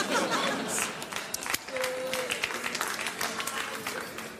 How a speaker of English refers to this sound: I don't know what we're applauding, but okay.